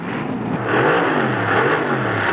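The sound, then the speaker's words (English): A car engine revs hard and climbs in pitch as the car is driven too fast, loud, with a steady roaring whir and no voices. “Driving too fast.”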